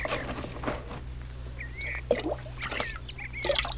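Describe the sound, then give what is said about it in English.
Water sloshes and splashes as a woman's pitcher is lowered into a well to draw drinking water, with a few soft gurgles and drips, while birds chirp faintly in the background. No one speaks. “Oh, here, let me help you lower the pitcher.”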